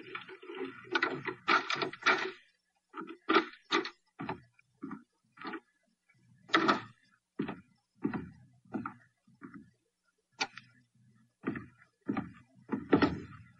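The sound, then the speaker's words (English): Muffled footsteps thud down a hall at an uneven pace, followed by sharp metallic clicks and rattles of a key being inserted into the lock of an apartment door. No one speaks. “Then we heard muffled footsteps coming down the hall and a key inserted in the lock of the apartment door.”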